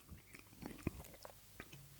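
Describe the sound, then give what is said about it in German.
Quiet chewing with irregular crunchy bites and soft mouth noises repeating over about two seconds, with no talking. “ist Kauen. Gerade.”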